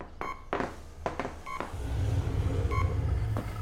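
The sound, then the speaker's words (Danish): Several short electronic beeps from a radio inside a secret room sound at irregular intervals, each a clean tonal chirp, followed by a steady low rumbling hum underneath the last few beeps. No voices are present. “Så bipper radioen inden for det hemmelige rum.”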